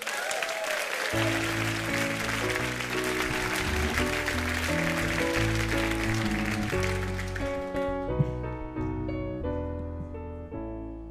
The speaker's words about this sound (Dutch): En dan nu een warm applaus voor onze prachtige poëet